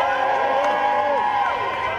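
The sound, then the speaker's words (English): A dense crowd of supporters cheers and shouts continuously as the two French runoff candidates, Emmanuel Macron and Marine Le Pen, emerge in the morning; many overlapping voices rise and fall in pitch with whoops, a loud steady roar with no single voice standing out. “The two candidates still standing emerged this morning to crowds of supporters.”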